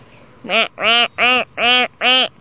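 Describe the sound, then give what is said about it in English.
A person imitates a duck, giving five loud, nasal quacks in a steady rhythm, with short pauses between each call and no other talking. “Want to hear this quack? I learned it from my ducks, too.”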